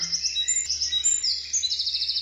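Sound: bird songs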